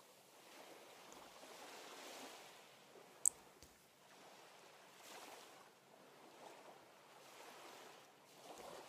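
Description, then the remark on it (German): Steady wash of ocean surf, broad and rushing, with waves swelling and receding in gentle surges and a light, warm breeze under warm sunshine, no voices, one brief sharp click partway through. “Du hörst die Wellen, das Meer. Es rauscht, es ist in Bewegung und lädt dich ein, näher zu kommen.”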